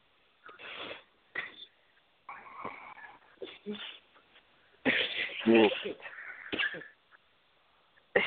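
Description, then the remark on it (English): A harsh run of coughing and throat clearing, several irregular bursts with short pauses between them, the loudest and longest fit coming about two-thirds of the way through. “Did I start coughing and everything?”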